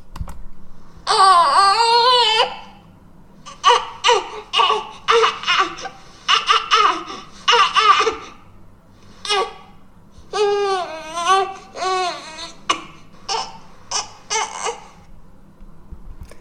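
Several babies make a string of short, clipped vocal sounds, the typical sounds babies make when they need to burp, each one abruptly cut off, in quick bursts separated by brief pauses, fairly loud.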